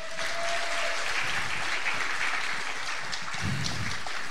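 A crowd claps steadily and dense for a few seconds, a broad wash of many hands applauding at once, moderately loud and without any talking over it.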